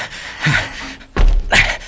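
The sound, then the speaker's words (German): An unlocked door is pushed open: a brief creak of the hinge, then a heavy thunk and another dull knock as it swings, with no voices. “Zum Glück ist die Tür nicht verschlossen.”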